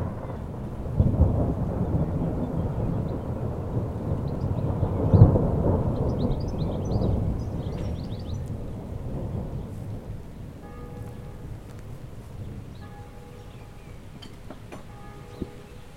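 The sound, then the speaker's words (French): A thunderstorm: deep rolling thunder swells and rumbles through the first half, then fades into a steady patter of rain, with faint bird chirps in the background. “Bon, ben, si ça continue, il va peut-être pleuvoir ce soir. Hein. Petit coup d'orage, ça ferait du bien, non ?”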